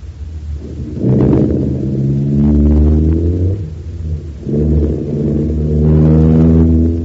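A car engine turns over and revs up loudly, its pitch climbing as it accelerates in two surging pushes, with a low rumble underneath and no talking.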